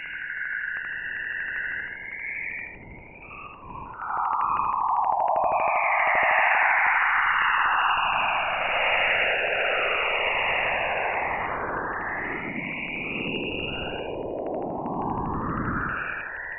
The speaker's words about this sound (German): Für die Auroren des Jupiters und des Saturns weiß man es noch nicht genau. Vorerst bleibt uns ihre Entstehung verborgen. Fast klingt es ein wenig unheimlich, das aureale Rauschen.